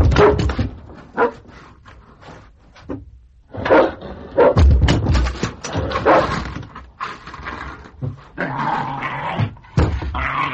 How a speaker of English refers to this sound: Then came a yawn, as if some animal had woken from sleep, followed by an eager, savage whining and a low, soft snarl. Something sniffed along the gap at the bottom of the door, then a heavy body hurled itself against it.